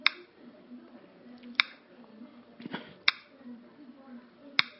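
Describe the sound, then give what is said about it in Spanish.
Four sharp, bright clicks from taps on a phone screen while opening an article from Proceso magazine in Safari, spaced roughly every second and a half, standing out clearly over a low background hum with faint rustling between them. “Como ven los clics acá.”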